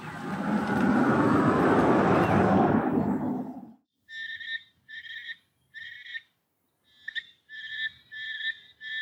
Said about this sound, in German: Dann das Geräusch, das ihr hört, ist ein Frosch aus dem Nebelwald in Ecuador.